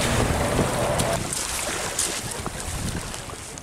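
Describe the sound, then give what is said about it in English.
A tiny sailboat rushes through the water, with steady splashing and hull wash under gusty wind buffeting the microphone, fairly loud with no voices. “The boat just took off on its own.”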